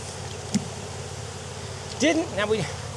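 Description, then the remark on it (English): A steady, low drone of honeybees buzzing around hive boxes, with bees covering two frames, hums through the whole scene as the hive is worked, with a brief knock early on and a short burst of a person's voice near the end. “It's got bees covering it up over here.”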